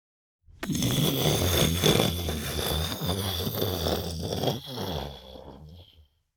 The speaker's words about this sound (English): Rolling thunder.